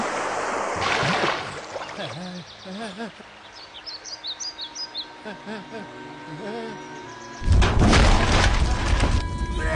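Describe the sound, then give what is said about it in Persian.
In a film scene by a river, birds chirp and tweet over a quiet outdoor backdrop, then a sudden, loud, deep explosion as a bridge is blown up bursts in near the end and keeps roaring and rumbling until the sound cuts off. “تو این سکانس جبار سینگ از بال رد میشه و اونو منفجر میکنه.”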